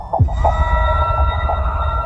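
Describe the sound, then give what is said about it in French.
Enemy submarine sonar that has detected the submarine sounds like a faint, distant siren: sustained wavering tones drifting over a deep underwater rumble, with a few soft throbbing pulses and no voices. “C'est ce qu'on entend quand un sonar ennemi vous a détecté, on entend comme une sirène au loin, qui est le bruit de ce sonar”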